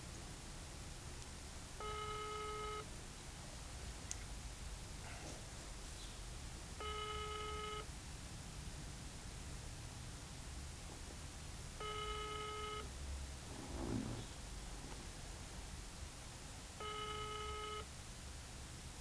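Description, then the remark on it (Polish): Telephone dialing tones while calling the Centrum Handlowe Promenada shopping centre: four steady, mid-pitched electronic beeps, each about a second long, repeating at even intervals of several seconds over a low background hiss, with no talking. “No właśnie, tak jest, aby Piotr zaczął dzwonić.”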